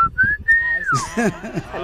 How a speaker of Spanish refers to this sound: que mandó también su silbido que identifica a su familia. Escuche nada más.